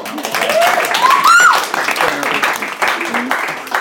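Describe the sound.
A burst of steady clapping fills the whole moment, loud and dense, with a rising whoop of voices cutting through near the start and chatter mixed in underneath.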